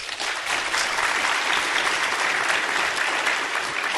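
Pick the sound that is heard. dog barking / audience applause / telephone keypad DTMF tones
audience applause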